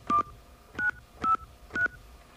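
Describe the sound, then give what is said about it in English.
Four short touchtone keypad beeps at an even pace, each a brief dual-pitched tone from the buttons of a touchtone phone as a zip code is entered into an automated phone menu, fairly clear with no talking. “Using the buttons on your touchtone phone, please enter your 5-digit zip code now.”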